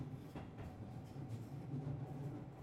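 train riding on rails

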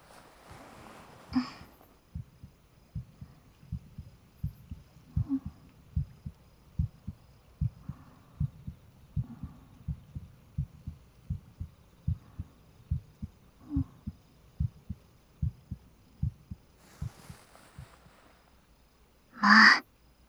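pounding heartbeat

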